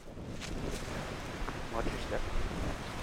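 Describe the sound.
Steady wind roars along the Lake Michigan shore in Manistee on a cold, snowy afternoon, a low, buffeting rumble with gusty swells that runs unbroken, while faint indistinct voices sit in the background.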